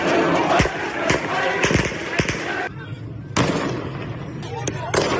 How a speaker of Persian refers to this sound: در بیشتر راهپیمایی‌های مردمی ماموران انتظامی ابتدا با شلیک‌های هوایی تلاش کرده‌اند آنها را ساکت و جمعیت را متفرق کنند.